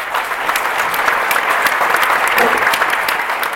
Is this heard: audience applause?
yes